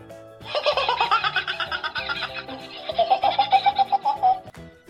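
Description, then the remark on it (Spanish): The bird of a thousand songs mimics the contagious laugh of a kookaburra: a long run of rapid, rhythmic cackling hoots in a bright, harsh pitch, swelling again in a loud final burst before stopping abruptly. No talking. “También puede reproducir la contagiosa risa del cucaburra.”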